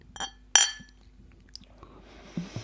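glass bottles clinking together

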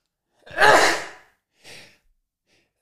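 sneeze

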